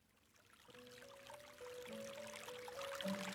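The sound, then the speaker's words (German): Gentle trickling, splashing water babbles softly and steadily, growing slightly louder, while a calm melody of sustained tones plays over it. No one speaks. “Ich vernahm das leise Plätschern von Wasser, zusammen mit einer beruhigenden Melodie, und ein Geruch von frischem Regen drang in meine Nase.”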